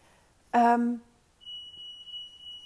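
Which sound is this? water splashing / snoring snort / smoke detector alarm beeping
smoke detector alarm beeping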